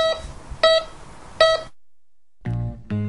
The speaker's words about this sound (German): Ist schon doll, was der Metalldetektor M318 alles kann. Findet Münzen, die bis zu 35 cm tief in der Erde liegen.